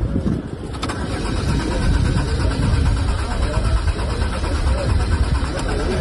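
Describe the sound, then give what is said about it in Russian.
The engine of a Lada Aura car presented at a forum cranks continuously for several seconds as Herman Gref tries to start it, a steady churning whir that never catches and fires up, with faint voices murmuring in the background. “Тот же Герман Греф дважды безуспешно пытался завести презентованный на форуме автомобиль «Лада Аура» и потом разочарованно вылез из машины.”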